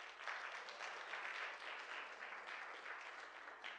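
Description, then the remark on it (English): A crowd at the Hive Church claps steadily for a few seconds, a dense, even wash of many hands with no voices standing out, holding at a fairly constant loudness throughout. “Give yourselves a round of applause for that.”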